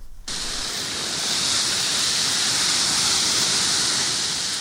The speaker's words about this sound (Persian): صدای سوختن علف‌های خشک، آتش سوزی گسترده جنگل‌های شمال اسپانیا که هفته پیش آسمان مناطق شمالی این کشور را سیاه کرد. آتش سوزی ناشی از موج گرمایی که بیشتر مناطق نیمکره شمالی را فرا گرفته.